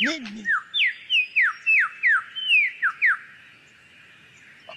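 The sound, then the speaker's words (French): A male superb lyrebird sings during the mating season, part of a medley of original and mimicked songs in a courtship display: a quick run of about ten clear, high, downward-sliding whistled notes in steady rhythm, following a brief voice at the start, then falls quiet. “Le mâle passe la moitié de ses journées à chanter un pot-pourri de chansons originales et de reprises.”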